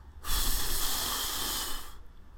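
A single steady breath blown lightly onto a phone screen, heard as a breathy hiss with a soft low rumble that lasts under two seconds before stopping. No one speaks.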